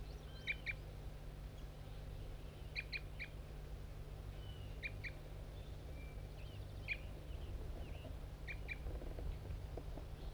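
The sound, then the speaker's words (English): A bird gives harsh, aggressive fight notes: short, sharp high chirps in clusters of two or three, repeated about every two seconds over a steady low hum. “Bird 5-3 giving aggressive fight notes.”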